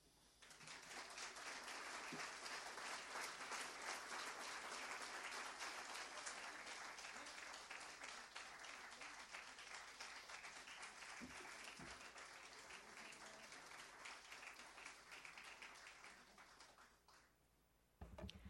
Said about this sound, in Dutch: Het is duidelijk dat er een warm applaus in ieder geval op uw speech volgt